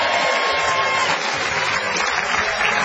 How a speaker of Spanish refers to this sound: Me tapan los aplausos.